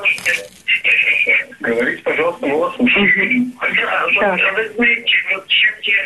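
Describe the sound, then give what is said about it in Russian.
Muffled audio from a caller's television comes through a phone line during a call-in broadcast: continuous, narrow-band talking voices with a tinny broadcast quality, steady and moderately loud for the whole stretch, with no clear words standing out. “Отключите звук телевизора, тогда вам будет удобнее.”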